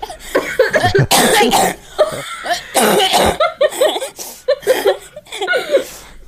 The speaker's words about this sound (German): Das mit dem Husten, das kommt echt ein bisschen wie alte Frau. Ich kann nicht so viel, ich hab halt Husten. Sorry. Jetzt husten alle.